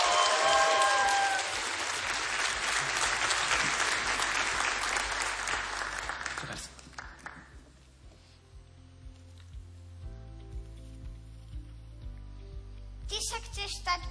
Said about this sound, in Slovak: Poprosím potlesk.